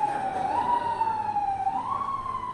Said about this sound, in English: Okay, so the Corinthians, yeah, that is appropriate right there, that siren.